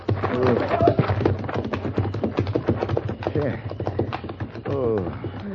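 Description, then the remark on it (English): Horse hooves clip-clop in a quick, steady rhythm, with voices talking over them the whole time. “Thank you for the horses”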